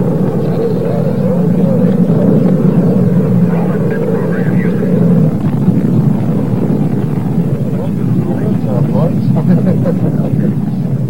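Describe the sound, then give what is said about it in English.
A deep, continuous roar of rocket engines at the liftoff of a crewed launch, all engines running as the rocket clears the tower, loud and steady for the whole stretch, with rumbling low-end thunder and a crackling, wind-like hiss layered on top. “All engines running. We have a liftoff.”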